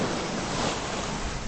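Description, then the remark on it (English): Steady rushing of ocean waves mixed with wind in the North Pacific, in a ship's wake, a broad, constant hiss and roar at moderate loudness with no voices, filling the whole short stretch without pause. “Out in the North Pacific, an albatross flies in the wake of our ship.”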